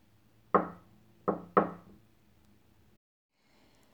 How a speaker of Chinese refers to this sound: 这时候敲门声响起。我知道，我的宝贝儿子来了。